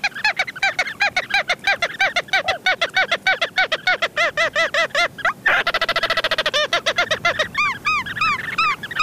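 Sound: ross's gull calls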